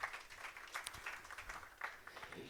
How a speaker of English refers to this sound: Big round of applause, please.